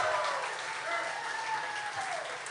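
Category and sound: crowd, audience applause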